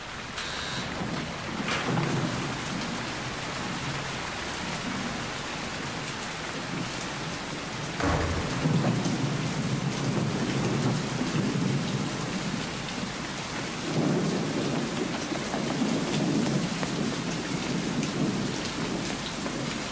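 Steady, heavy rain pours down in a dense continuous hiss, with low rolling rumbles of thunder swelling in twice partway through. No one speaks.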